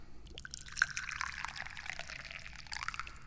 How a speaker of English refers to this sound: Oh boy, as I pour my tea into the cup, I realize, this is something new, isn't it?